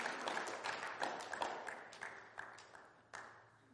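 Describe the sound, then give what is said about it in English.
Scattered hand clapping from a church audience during a sermon, irregular, gradually thinning out with one last sharp clap near the end. No one speaks. “I heard a hand clapping there somewhere.”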